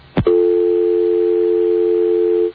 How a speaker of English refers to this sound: There we go. That dead air is because we were dialing. Hello. All right, so we are dialing. Is it? So this is his cellular telephone that's going to ring here?